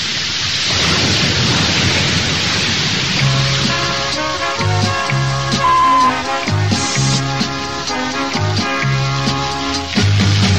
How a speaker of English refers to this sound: Don't worry, that wasn't the aerial blowing down. It was the noise of the sea.